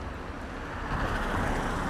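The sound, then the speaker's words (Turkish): A car approaches along a street with no sidewalk, its engine and tire noise swelling steadily louder over about two seconds amid broad roadway rumble, with no talking. “Bir araba daha geliyor hatta.”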